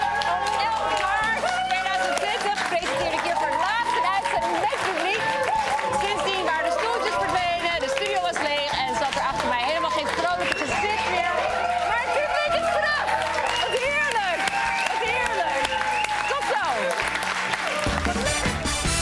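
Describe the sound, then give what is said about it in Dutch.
A studio audience suddenly runs into the studio in the middle of Eva Jinek's Friday evening broadcast, celebrating the end of the 1.5-metre distancing rule, bursting in with loud, sustained applause and excited cheering, a dense roar of clapping and overlapping voices that stays steady for the whole stretch. “Ja, er kwam allemaal publiek opeens midden in de uitzending kwam de studio inrennen.”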